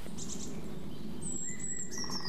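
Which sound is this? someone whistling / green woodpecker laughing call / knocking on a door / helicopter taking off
green woodpecker laughing call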